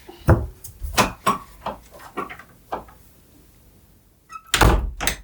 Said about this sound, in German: Wenn du die Tür wieder zumachen könntest, wäre das großartig.